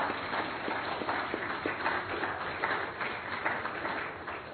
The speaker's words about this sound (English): These are the men. Be a man, men. Can we? The rest of you, give them a round of applause.